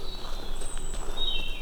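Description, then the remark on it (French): Thin, high bird whistles drift in over a steady outdoor hiss at dusk as evening falls, a short sustained note followed by a longer gliding, descending call, fairly faint with no voices. “Et puis, c'est la bonne heure, là, les oiseaux.”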